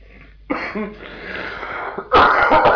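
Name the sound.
coughing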